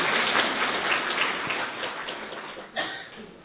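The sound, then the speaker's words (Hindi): An audience applauds for themselves in a dense, steady wash of clapping that tapers slightly toward the end, with a brief surge near the close. No voices are heard. “अपने लिए ताली बजाएं, आज के दिन खूब ताली बजाओ, कल से नहीं करना।”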